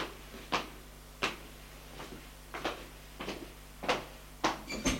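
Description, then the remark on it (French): A woman handles and shuts a door at a doctor's office, giving a series of sharp knocks and latch clicks spread over a few seconds, over a low steady hum. “Elle ferme la porte.”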